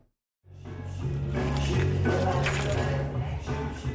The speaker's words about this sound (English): A scene repeated in bars across South Africa every day. A patron walks in, tosses his car keys on the counter, and starts drinking alcohol.